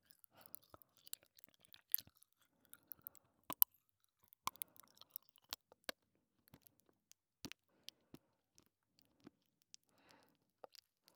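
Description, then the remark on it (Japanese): Popping candy crackles while being chewed: sharp, irregular clicks and snaps scattered over eleven seconds, some quick clusters, with soft wet chewing in between and no talking. “まだパチパチ残ってる。”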